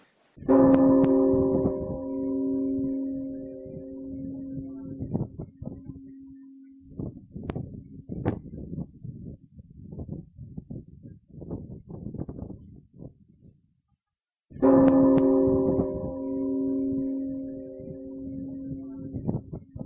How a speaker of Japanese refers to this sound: 番組では市内のお寺にお願いをしまして、それぞれの盆唱の音を録音して、ご住職のお話なども交えながら今晩聞いていただくことにいたしました。改めて西宮の夜に響く鐘の音、お聞きいただきたいと思います。